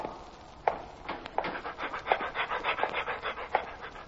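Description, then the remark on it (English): Lassie, playing a prison dog named Cellmate, pants steadily in quick, breathy rhythmic puffs, with a few sharper clicks or taps mixed in, alone without talk. “Well, today Lassie plays the part of a prison dog named Cellmate, and nicknamed Mate.”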